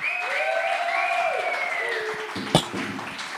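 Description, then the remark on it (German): Steady applause from an audience fills the whole few seconds, with a sharp whistle gliding over the clapping near the start and one louder clap standing out late on. “Applaus!”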